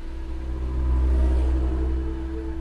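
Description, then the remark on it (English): A jeep engine rumbles steadily, its low drone swelling slightly as it revs and drives towards Lake Tanganyika, with no voices present. “I climb into his jeep and we head towards Lake Tanganyika.”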